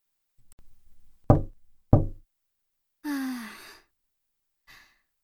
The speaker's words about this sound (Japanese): ホラー映画じゃないんだからさ、こんな深夜にノックとかやめてくれる？びっくりしちゃうじゃん。